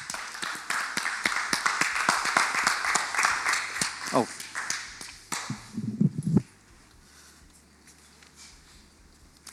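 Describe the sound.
A crowd applauds with dense, rapid clapping that fills the first six seconds, with a few voices mixed in, then cuts off abruptly into quiet room tone.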